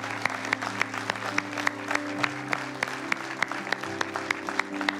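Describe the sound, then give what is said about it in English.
A church audience claps steadily, with the crisp, continuous patter of many hands carrying over soft, sustained keyboard chords that hold underneath the whole time. “Come on, would you keep clapping, church?”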